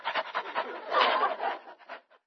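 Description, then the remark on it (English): A man down on all fours imitates a dog panting, copying what the dog does: a quick series of breathy huffs in a steady rhythm that swells louder in the middle before trailing off. “Well, he's panting, so I'll pant.”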